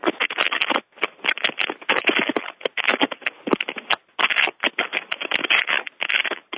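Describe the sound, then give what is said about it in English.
Paper being crumpled over a phone line: a steady, irregular stream of dry crackles and rustling bursts with a thin, band-limited telephone tone, heard alone without any talking. “Now someone is crumpling paper on the phone.”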